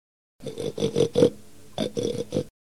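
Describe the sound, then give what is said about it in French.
A pig grunts and oinks in two quick bursts of short, rhythmic grunts separated by a brief pause, fairly loud, with no talking. “Je mange n'importe quoi, répond le cochon.”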